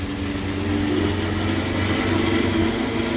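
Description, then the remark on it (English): A car engine runs steadily with a low, droning hum and a constant rumble of road noise as the car drives toward a level crossing with closed gates, a police car following behind. It holds an even level throughout with no voices. “The police car's still behind us.”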